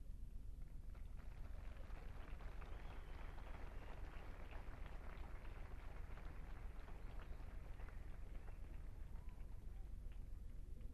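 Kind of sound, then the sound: nature, light rain falling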